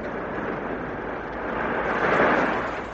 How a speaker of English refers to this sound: It is. I'm sure it's waves breaking on a beach.